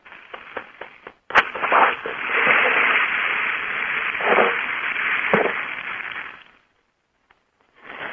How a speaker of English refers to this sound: Okay. Was that the Bank of America over there? Yeah, that was a nice little applause there.